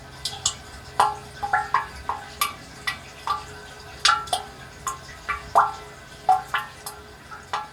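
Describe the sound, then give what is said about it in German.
Water drips steadily inside a spring water catchment with plastic pipes, an adjustable sound installation by a reed meadow. Each drop is a clear resonant plink, falling at an uneven rhythm of roughly two per second over a low hollow hum. No voices. “Und da konnte man hören, wie die Wasserfassung, wie es klingt in der Wasserfassung und konnte das auch noch ein bisschen verstellen.”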